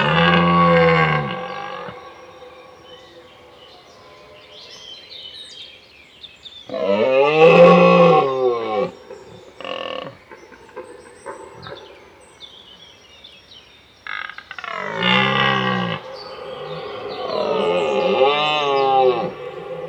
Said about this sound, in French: Le cerf aussi pousse de grands cris en automne quand il est amoureux. On dit qu'il brame.